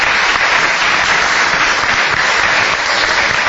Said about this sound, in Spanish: Un aplauso para Tomasito.